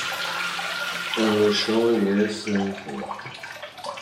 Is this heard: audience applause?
no